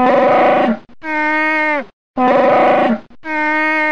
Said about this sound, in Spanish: Y el sonido fue pura alquimia. El rugido de Chewbacca se creó mezclando grabaciones de osos y morsas.